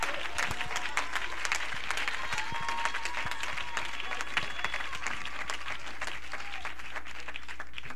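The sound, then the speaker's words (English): Steady, dense applause from an audience clapping their hands all across a building at an evening service, in praise of God, many hands clapping continuously at an even level for several seconds with no voices standing out. “Clap your hands all across this building tonight.”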